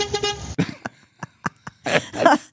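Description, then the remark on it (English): A loud car horn honks for about half a second, followed by a few short sharp knocks and then a brief burst of noisy clatter. “I like the beep beep.”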